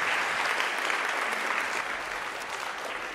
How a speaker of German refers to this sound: Applaus aber erstmal für dieses Musiklabor Transformatur.